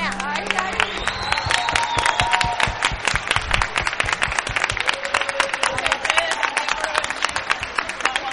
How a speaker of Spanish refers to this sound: Fuerte aplauso para estos pedazos de músicos.